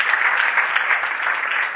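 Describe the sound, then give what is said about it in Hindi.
A crowd claps steadily, a dense, continuous wash of many hands applauding for a couple of seconds, with no talking. “वाह, मेरी संगत के लिए तालियां बजाओ।”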